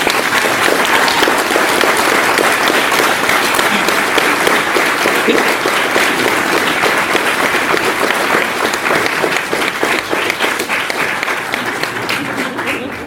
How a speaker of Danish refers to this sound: For nu er jeg sikker på, at når jeg holder mikrofonen op her, så får vi et bifald sendt fra Nordjylland til Vallekilde.